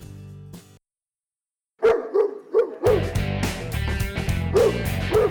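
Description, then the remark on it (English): Dogs bark and yip in short, punchy bursts, first a few alone after a brief pause, then continuing in rhythm over a loud, busy musical backing. “You know, I tell you what, those dogs just keep getting funkier and funkier as we go along.”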